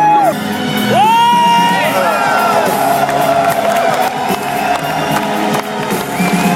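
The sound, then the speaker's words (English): A loud concert crowd at the Trianon cheers and applauds as the concert begins, with whoops and high sliding shouts rising over a dense wash of clapping and roaring voices throughout. “Les applaudissements sont nourris, les corbeaux volent sur fond d'écran.”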